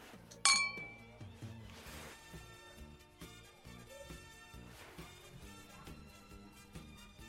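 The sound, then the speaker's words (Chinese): A single bright clink of glasses touching in a toast to an upcoming long holiday rings out near the start, its chime fading quickly over a steady bed of soft background music and ambience. “干杯。”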